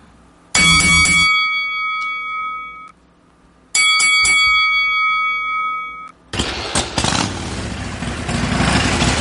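A bell rings in two loud, clattering bursts of rapid strikes, each leaving a bright metallic tone that fades, before a steady rumbling, engine-like roar takes over.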